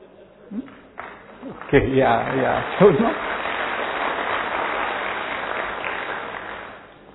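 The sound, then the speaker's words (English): An audience breaks into clapping, a dense steady wash of many hands lasting several seconds before tapering off, with a few voices calling out over the start of it. “There are so many reasons why we should clap.”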